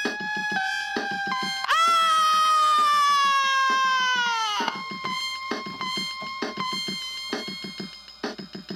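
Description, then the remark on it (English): A woman, awakening to find a leering phantom creature looming over her, gives a piercing scream of horror that leaps up sharply and holds shrill for about three seconds before cutting off, set against tense music with sustained tones and pulsing beats. “The woman's shriek of horror inundates the rapturous phantom.”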